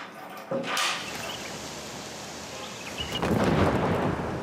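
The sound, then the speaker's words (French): A mortar launch booms out, a dull thud followed by a long rolling rumble, then a second, heavier low boom swells near the end with no one speaking. “C'est une explosion ? Oui, ça doit être un départ de mortier.”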